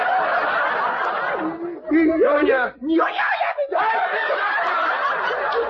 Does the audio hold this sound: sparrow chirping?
no